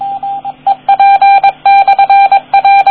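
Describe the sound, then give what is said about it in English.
A radio repeater sends its call sign in Morse code: a steady, bright tone keyed into quick dots and longer dashes, loud and clear with no voices. “That was the repeater calling back with its call sign. I don't know the Morse code for that, but I would believe it's the call sign for that repeater, which is some variation with a 9 in it for my designation, but that's just it calling.”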